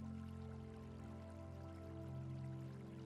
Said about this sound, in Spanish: Hay una bonita fuente de piedra que emana agua, emitiendo un sonido muy agradable y relajante.